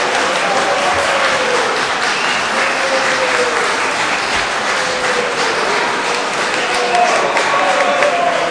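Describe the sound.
Steady applause fills the Latvian parliament chamber for several seconds as a deputy is welcomed to the rostrum, a dense wash of many hands clapping at an even level, with some murmuring voices faintly mixed underneath.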